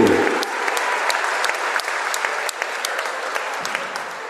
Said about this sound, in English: And one more round of applause, fans, for number 33